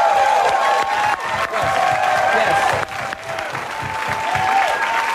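A large audience bursts into sustained applause mixed with cheering and a few whistling shouts, loud and continuous throughout, with dense clapping filling the whole stretch.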